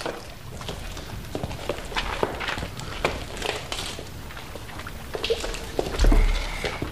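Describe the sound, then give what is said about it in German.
A small boat pulls in to shore: water sloshes and wooden hull knocks and creaks, ending with a heavier bump as it lands. No one speaks. “Kurz darauf hörten die Kinder, versteckt in der Felsenhöhle, ein Boot anlegen.”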